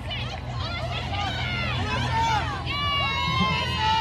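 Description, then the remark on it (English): A large crowd cheers and screams loudly and continuously, many high-pitched voices overlapping into a dense roar that swells slightly louder partway through, with no single speaker standing out; the loudest cheers come when Nayer gets her chance to hold the World Cup trophy. “The loudest cheers when Nayer got her chance to hold the World Cup trophy.”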